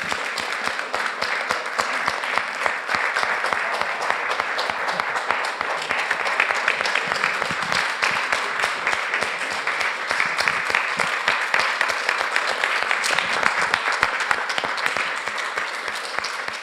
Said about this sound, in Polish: Wielkie, wielkie brawa i podziękowania.